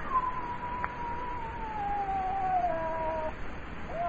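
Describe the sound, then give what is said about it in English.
A scrawny cat named Clara yowls by a stove, back arched, circling a Bushmaster snake: one long wavering tone that slowly sinks in pitch for a few seconds, then a short rising cry at the end, with no talking. “Slowly, it entered my line of vision. It was a cat.”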